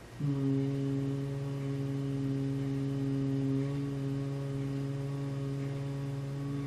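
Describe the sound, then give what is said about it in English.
A single steady hummed tone held for several seconds on a long exhale after a deep inhale, with fingers placed over the ears; it starts abruptly and is sustained evenly at a low pitch, fairly loud with no talking. “So let's get our comfortable position, and let's place the fingers over the ears, and let's take in a nice deep inhale. And then as we begin the exhale, let's start to hum.”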